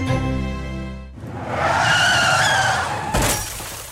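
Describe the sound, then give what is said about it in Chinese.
A revving car engine gives way to a long, high-pitched tire screech lasting about two seconds, ending in a sharp crashing impact with a brief burst of shattering noise. “我撞了车，好彩没乜事， 千祈要小心啊！”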